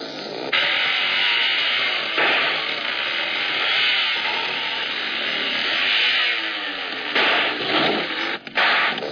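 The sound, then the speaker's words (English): A buzzing engine drones steadily for several seconds, loud and rough, with a few brief surges and dips in its noisy roar and no voices. “Hey, fellas, do you hear something? Hey, sounds like a car or a motorcycle.”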